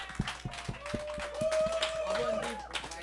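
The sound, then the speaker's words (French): An audience claps for the show's regular panel as they are introduced, in scattered, uneven bursts over a murmur of crowd noise, with a sustained whoop or whistle rising above the clapping partway through. “Et pour le faire fièrement avec moi ce soir, on a la faune habituelle, vous la reconnaissez, ça vaut la peine d'applaudir.”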